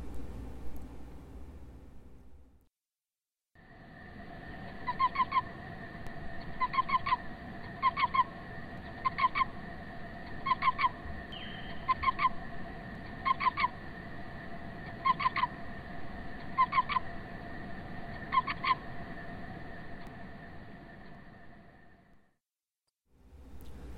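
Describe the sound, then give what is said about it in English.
Cricket chirping, recorded in a field in Royalston, Massachusetts, in 2017, slowed to quarter speed, turning each chirp into a low, drawn-out croaking pulse repeating at a steady, even rhythm over a constant droning hum, with no talking. “Here's that same cricket played back at about one-quarter speed.”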